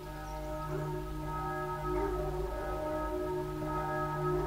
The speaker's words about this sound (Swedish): Han nämnde Saint Mary Glees, den lilla staden där de första fallskärmsjägarna landade strax efter midnatt den 6 juni. Det här är kyrkklockorna i Saint Mary Glees.